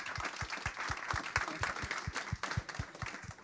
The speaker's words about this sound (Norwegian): Applaus!